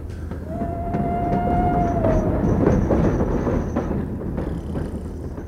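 An express train rumbles steadily along the rails, a dense low roar with faint rhythmic clatter, a thin squealing tone from the wheels and a high metallic whine above, with no voices.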